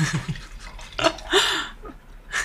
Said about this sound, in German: Ich schenke dir mal einen Schluck ein. Danke sehr. Gluck, gluck, gluck, gluck, gluck.